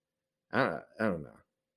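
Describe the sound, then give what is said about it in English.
A pet cat meows twice in quick succession, two drawn-out, rising-and-falling cries, with a short pause between them and no one talking. “But there's my cat being annoying.”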